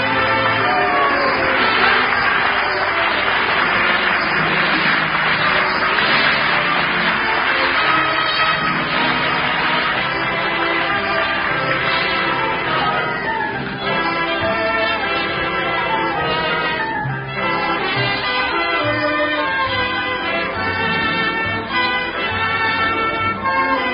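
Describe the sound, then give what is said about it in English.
A steady, dense murmur of a gala crowd chattering at once fills a theater lobby before a new play, sustained and fairly loud throughout with no single speaker standing out. “Another gala and brilliant crowd fills the lobby tonight, and here among the most eager to see the new play is the well-known man about town, your host,”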